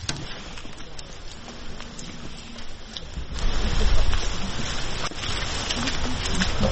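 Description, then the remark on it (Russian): Steady rain drums on a car roof in a dense, continuous patter in cold, damp weather, swelling noticeably louder midway and staying heavy to the end. “Сыро, холодно. А так нічого. Ви в машині весь час? Дощ в машині.”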